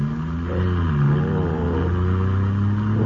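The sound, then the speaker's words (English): A smooth car engine hums steadily as the vehicle drives along, a continuous low drone with slight shifts in pitch and no voices. “Sure is a smooth car you got here, Ranger.”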